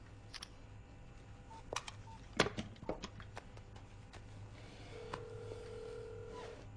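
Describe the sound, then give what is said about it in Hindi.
A phone is dialed to call the police: a run of short clicks and keypresses, then a steady tone sounds over a low background hum. Nobody speaks. “बस अब एक लास्ट काम बाकी है। क्या? पुलिस को फोन।”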